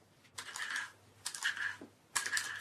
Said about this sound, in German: Halt den Deckel ans Ohr. Ich höre nichts. Gleich fange ich an zu kratzen. Bruno kratzt auf dem Pergamentpapier herum.